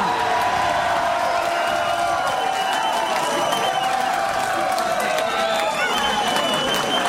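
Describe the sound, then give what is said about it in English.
A large crowd of mostly 20-somethings at Ron Paul's primary party claps and cheers steadily as he speaks, with shouts and whoops rising over a dense wash of applause that stays loud throughout. “The room of mostly 20-somethings ate it up.”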